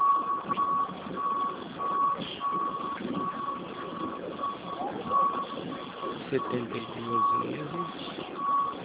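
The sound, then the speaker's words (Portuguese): A vehicle's reversing beeps sound in a steady, repeating series of high-pitched tones, moderately loud over low engine rumble and muffled background voices, as a car is parked. “Espera aí. Vou pôr o carro aqui.”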